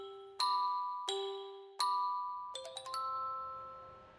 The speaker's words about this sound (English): Let's imagine we're at the puppy salon with Elmo and Tango. As soon as we walk in, a little bell rings over the front door.